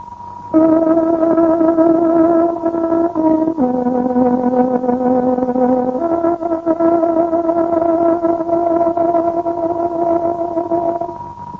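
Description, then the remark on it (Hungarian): A time signal marking 11 o'clock on Radio Free Europe's Voice of Free Hungary shortwave broadcast: a loud, steady electronic tone with rich overtones, dropping in pitch partway through and then rising again, held for about eleven seconds with no voices. “Kedves hallgatóink, pontos időjelzést adunk.”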